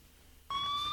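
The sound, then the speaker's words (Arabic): An ambulance siren in Kabul, Afghanistan, after an attack on Kabul University, cuts in abruptly and loudly after a moment of quiet background hum, holding a steady, piercing high tone with a fainter overtone above it. No one speaks. “أصوات الإسعاف تتعالى مجددا في العاصمة الأفغانية في مؤشر على يوم دام آخر مرت به كابول.”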